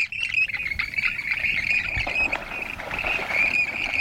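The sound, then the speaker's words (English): Western grebe calls ring out in a steady, overlapping stream of high, reedy notes lasting several seconds, set over a constant rushing background hiss with no speech. “The grebes then stand up in the water, face one another, press tightly together, then drop the plants and preen.”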